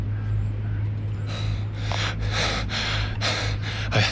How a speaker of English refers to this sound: Fortunately, he's not much of an athlete. … bent over, breathing hard.